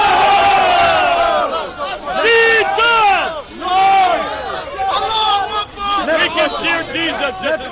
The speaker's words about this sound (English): I could understand that being up on the ladder was no ordinary form of evangelism, but I was still uncomfortable with the tribalistic shouting that seemed to be so prevalent as the debate went on.